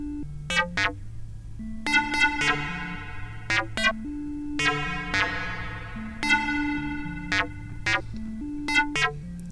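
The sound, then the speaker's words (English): Electronic music pushed through a heavy filter effect: bright, buzzy synth stabs flare up and fade in repeating bursts over a stepping low bass line, with no voices. “This is the part that I sort of went crazy with the filter on.”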